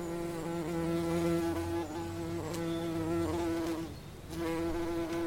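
bumblebee buzzing

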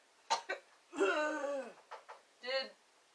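coughing

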